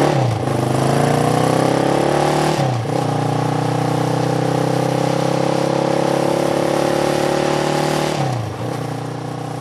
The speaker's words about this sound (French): Ou faire un tour en moto, tiens, si ça te plaît.